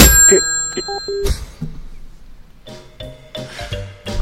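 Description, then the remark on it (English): A telephone handset is hung up: a clunk sets off a brief metallic bell ring, a second clatter follows, then a short lull and some faint tonal rattling. “Hanging up the phone.”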